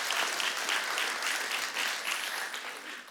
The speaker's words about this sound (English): yeah, you can clap for that. Yeah, absolutely.